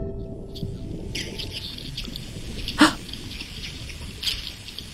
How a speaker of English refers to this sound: The typical sound. Yeah. Yeah. The whole box was just singing of these sounds. It was just incredible. It was just this cacophony of herring.